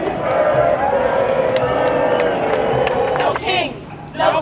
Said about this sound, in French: Donald Trump a tout de même eu droit à une chanson de la foule.